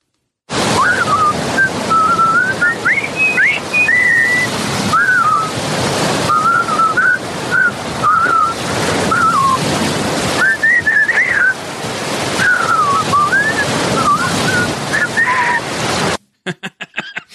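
Four people walking along a beach whistle the jaunty marching tune from The Bridge on the River Kwai together over a steady rush of ocean waves and wind, the melody carrying clearly for about sixteen seconds before cutting off.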